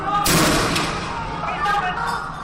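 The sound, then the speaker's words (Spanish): A loud sharp gunshot-like bang rings out, followed by a softer second shot, over the steady roar and shouting of a crowd, as police fire rubber bullets at protesters against an extradition law in Hong Kong. “A las protestas se ha respondido con cargas policiales, con balas de goma.”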